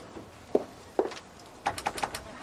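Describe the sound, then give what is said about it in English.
A door closing: two dull thuds, then a quick run of three short, mid-pitched beeps over a soft, steady background hum, with no talking. “Oh, sorry, door's closing.”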